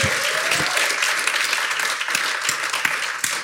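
A crowd breaks into sustained applause, dense overlapping claps forming a steady loud wash with a few sharper individual claps standing out, no one speaking.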